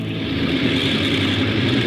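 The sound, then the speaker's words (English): A loud, steady airplane engine roar from the starboard engine two during a pre-takeoff check drones on, a dense rumbling hum that holds at an even level throughout, with no voices. “Starboard engine two.”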